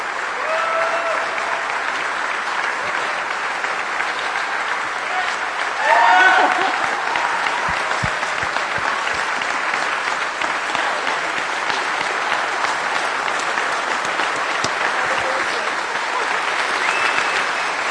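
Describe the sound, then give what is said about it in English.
Sustained applause from a large crowd for a team called up to the front, a dense, even wash of clapping lasting the whole stretch, with a brief louder swell partway through and scattered cheers or voices mixed in. “So we'd like our team to come up here, please, for everyone to give them a round of applause.”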